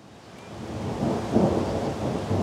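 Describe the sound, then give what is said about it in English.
A dense, steady roar of hail pounding outdoors in Orvada, with a deep rumble of thunder swelling through the middle. No voices, just the continuous wash of the storm throughout. “This is hail weather, and there it is.”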